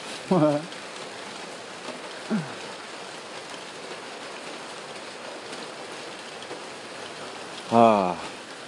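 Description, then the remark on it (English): A steady, even hiss of light rain drumming on a roof fills the whole recording, with a few brief voice sounds breaking through near the start and end. “I said, well, I hear it on the roof. I'd say there's a 100% chance it's raining right now.”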